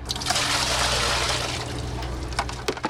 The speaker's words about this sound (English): McClellan dumps a bucket of water she's just pulled from the Lake Michigan Harbor in Milwaukee.